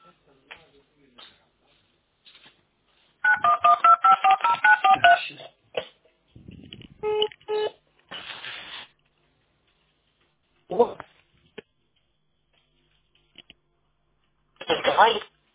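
A rapid run of telephone keypad dialing tones sounds clear, followed by clicks, handling noise and a few short, frequent busy-signal tone bursts, with quiet gaps between.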